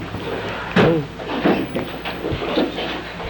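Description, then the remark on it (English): A kitchen drawer slides open with a sharp knock, followed by a few seconds of clattering and shuffling as utensils inside are rummaged through in search of a file for sharpening knives, with faint murmuring voices. “I should have one right in this drawer.”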